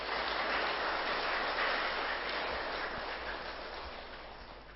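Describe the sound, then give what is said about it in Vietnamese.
A crowd claps in a steady, dense wash of applause that holds strong before gradually tapering off, with no voices over it. “Nếu quý vị thấy việc thực tập thiền là có kết quả và giá trị đó, thì hãy dâng cao tràng pháo tay và cố gắng làm.”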